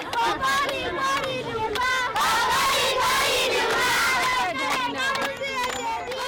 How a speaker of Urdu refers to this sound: بچے ایک مقامی امدادی گروپ کی جانب سے خوراک لانے والے ٹرک کا انتظار کر رہے ہیں. وہ خوشی کے موقعوں پر گائے جانے والے گیت گا رہے ہیں.